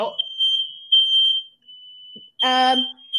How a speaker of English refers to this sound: Fire alarm is ringing.